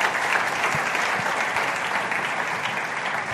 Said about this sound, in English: Please, a round of applause for them right there.